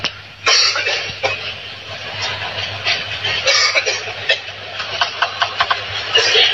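Table tennis player Fan Zhendong coughs repeatedly in short, harsh bursts that keep coming without letup, eight days after his first COVID-19 infection, while training and competing, a run of quick coughs near the end, over a steady low hum and faint background noise.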